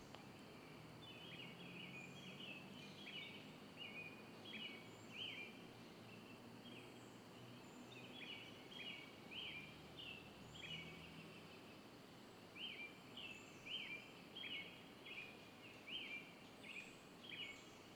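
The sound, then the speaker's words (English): A pileated woodpecker calls in repeated bursts of rapid, high notes, recurring every couple of seconds over a steady outdoor background hiss with no talking. “I think that was that monster woodpecker, the pileated woodpecker.”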